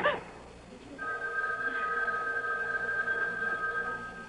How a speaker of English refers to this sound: It was the house phone. Not my private line with the unlisted number. Only two people ever knew that number.